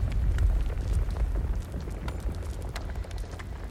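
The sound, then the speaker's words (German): A crack in the ground of a cave closing up: a deep, continuous rumbling roar dominates, with heavy low-end thundering and scattered crackling, cracking bursts on top, easing slightly in loudness toward the end. “Da hat dein Stab deine Wünsche verstanden und der Spalt im Boden schließt sich wieder unter Beben und Donnern.”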